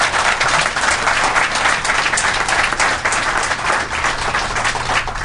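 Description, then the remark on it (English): A crowd at a Cato Institute event applauds John Githongo steadily, a dense, loud wash of many hands clapping at once with no pauses, continuing throughout without any voices breaking through. “He's one courageous man, and I'd like us to applaud him.”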